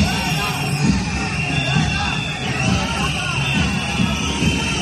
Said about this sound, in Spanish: Junto a la entrada del Palacio de Congresos de Badajoz, donde el presidente celebraba un mitin, desde el PSOE colocaron una comparsa. Bueno, pues ni con la comparsa fueron capaces de acallar los pitidos y protestas contra el presidente.